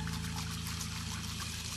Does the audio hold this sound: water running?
yes